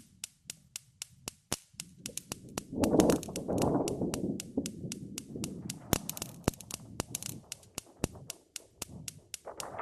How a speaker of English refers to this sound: Domestic Weather Experiment 21. Lightning created using insecticutor and gas cooker ignition.